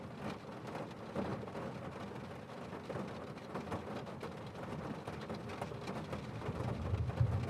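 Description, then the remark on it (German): Steady rain patters on the roof of a bus in Wiltshire in a dense, continuous wash, with low rumbling underneath and occasional louder drips; no voices, the sound soft and even throughout. “Klang des Regens auf dem Dach wirkt beruhigend”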